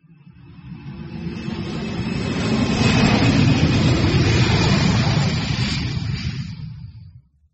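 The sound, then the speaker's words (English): A steady engine roar from an aeroplane swells as it approaches, peaks while passing overhead, then fades away, with a deep rumble underneath and a faint high whine on top. “Ming can hear an aeroplane.”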